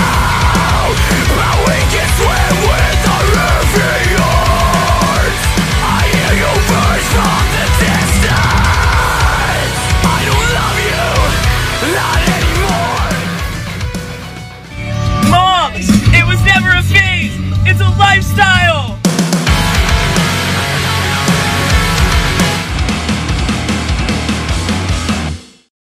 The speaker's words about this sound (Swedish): för nu kommer mitt vårskrik.